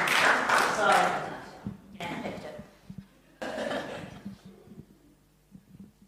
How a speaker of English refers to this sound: It's a long one, so give her an extra loud clap. Yeah. It's a long reading.